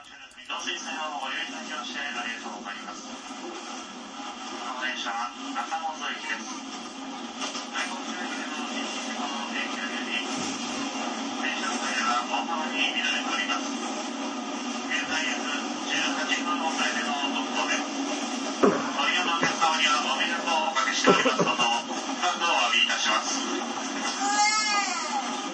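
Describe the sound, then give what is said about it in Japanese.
Loud, steady roar of an Osaka Municipal Transportation Bureau subway train running from Esaka and crossing a bridge, with a faint onboard announcement of an accident notice and the station name partly buried beneath the continuous clatter and hum for the whole stretch. “なんか橋の上通る時の音が大きい時に、ま、その駅の名前言うたな、今。”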